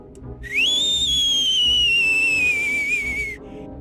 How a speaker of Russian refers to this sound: Садись, бабка свистит.